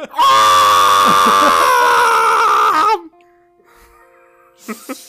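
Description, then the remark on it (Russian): A voice imitates an audience of 80 children screaming in a theatre auditorium, one loud, high, wavering shriek held for about three seconds, then a sudden drop to near silence with a couple of brief sounds at the end. “И 80 детей таких.”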